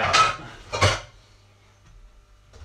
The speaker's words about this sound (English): I'm going to get a frying pan.